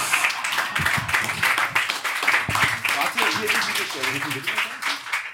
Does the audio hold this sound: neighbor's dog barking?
no